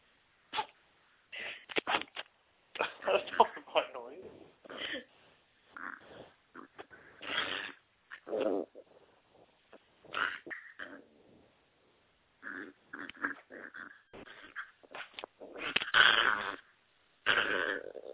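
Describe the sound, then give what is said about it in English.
A puppy, being loving, cuddly and overexcited, makes a run of excited grunts and snorts in uneven bursts, some short and choppy, others drawn out and raspy, with brief pauses between clusters and no talking. “This is the noise that the puppy makes. He sounds a bit like a gremlin.”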